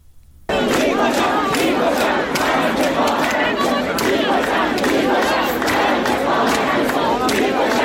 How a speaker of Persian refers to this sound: دانشگاه هنر که شعار می‌دادن توپ تانک فشفش آخوند باید گم بشه